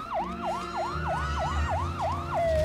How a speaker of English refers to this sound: A police car skids round a corner, people fleeing out of its way.